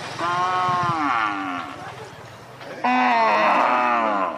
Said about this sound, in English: These cows at a market in the central Nigerian town of Makurdi are part of the problem. They belong to nomads who come to this area every year.